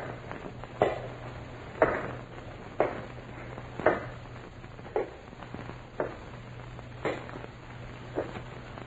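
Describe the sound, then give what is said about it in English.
Footsteps of a man walking at a steady, unhurried pace, about eight soft thudding steps roughly a second apart, over a faint constant low hum with no talking. “to these footsteps.”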